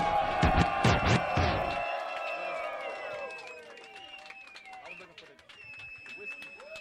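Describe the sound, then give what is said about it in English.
A live concert crowd, urged by the performer to make some noise, cheers and roars loudly for a couple of seconds, then the noise gradually fades, with scattered whistles and shouts trailing off into a softer crowd murmur. “Make some noise, y'all.”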